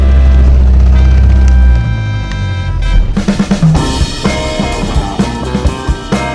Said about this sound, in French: Bon, quand même, on rallume le moteur, on retourne sur la rive. Attention, alors, 3, 2, 1... C'est parti !